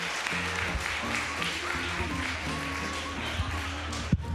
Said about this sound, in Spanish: Que no pare el aplauso para José Luis hasta bravo